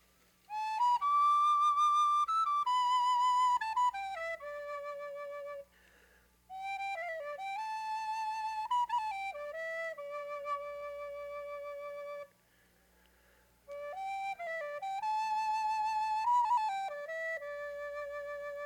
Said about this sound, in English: But just before I do that, I'd like to play this little flute for a minute. Last year, I remember playing this flute out here, and it's the nicest place in the world to play a flute is in Fox Hollow.